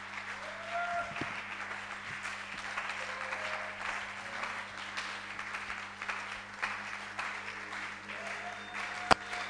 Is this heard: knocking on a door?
no